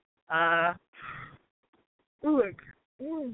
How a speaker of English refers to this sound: Excuse me for the yawn.